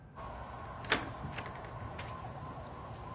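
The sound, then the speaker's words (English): An apartment building's exterior door opens with a single sharp latch click, followed by a few faint knocks and a steady low background hum. No one speaks. “she opens the apartment building's exterior door and leads Theo outside”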